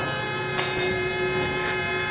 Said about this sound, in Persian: توجهشون به صدا جلب میشه. یه قطار از دور نزدیک میشه. اما قطار داره میاد.